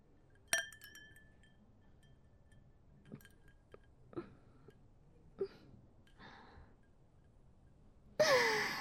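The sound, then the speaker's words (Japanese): A single bright clink of glasses in a toast over tequila, its ringing tone fading over about a second, followed by quiet breaths, small sips and a loud exhaled sigh at the end. “乾杯。”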